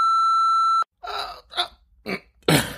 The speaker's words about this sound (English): Sorry, it sounded like I was about to die there, didn't it? I was stifling a burp. Could you believe I was doing such a thing? Stifling.